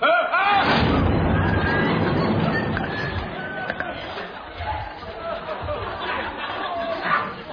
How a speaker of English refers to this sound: I've got some dust in my sinuses. Well, that'll teach you to stop skiving on the cleaning, then, won't it? Oh, no. What? I'm going to sneeze